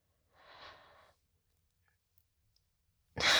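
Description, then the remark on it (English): A long, heavy breath rasps out, then a pause of near silence before another loud, breathy gust starts abruptly at the end. “Why are you breathing like that?”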